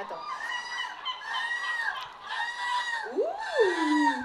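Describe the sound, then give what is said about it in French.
A person imitates a seagull's cry with a string of shrill, harmonic squawks in quick succession, ending on a rising and falling wail. The voice is fairly loud, with no talking. “Vous aussi, trouvez votre mouette intérieure.”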